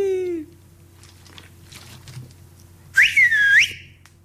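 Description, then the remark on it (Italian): A father gives a loud, sharp whistle to call his child, a quick rising-and-falling swoop, after a stretch of quiet hum with faint clinking in the background. “Una cosa che mi dà fastidio di lui è che mi chiami fischiando come farebbe ancora una pecora.”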